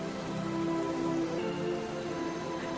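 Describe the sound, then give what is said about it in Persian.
Steady, dense patter of very cold snowmelt water droplets falling like spray, looking like mist from above, a continuous bright hiss with scattered tiny splashes and no gaps, fairly even in loudness throughout; no one speaks. At Babardara, a tourist site in Yakawlang district, Bamyan province. “زمانی که برش نگاه بکنی فکر میکنی که غبار است، ولی غبار نیست، تمامش همین قطرات آب است که پایین میچکه و فضا را فوق العاده بی‌نظیر و زیبا ساخته.”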